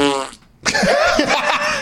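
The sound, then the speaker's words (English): A cartoonish fart sound effect: a short, reedy buzzing toot, a brief pause, then a longer, louder sputtering, warbling blast, with no talking. “I don't know if I would drive to talk to you, but maybe if you didn't put that fart sound in there, I would have went and done that.”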